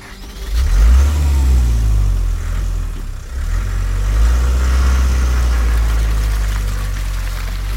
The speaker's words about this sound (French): Le dos en compote, les reins en marmelade, des calomins, de la boue sur les vêtements, il regagne sa voiture et disparaît aussitôt.